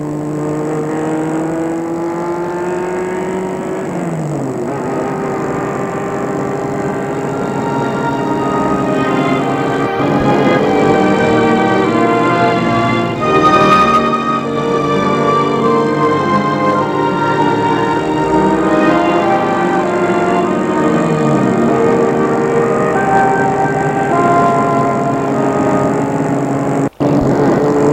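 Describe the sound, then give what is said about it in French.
A car engine hums steadily, its pitch rising and falling as it drives and changes speed, then winding down as it slows to stop in front of a bus stop at the end of the Nationale 6, with a sharp click at the close. “Le père Ducret va arrêter sa voiture devant l'arrêt du car.”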